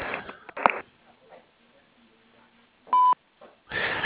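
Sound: voicemail recording beep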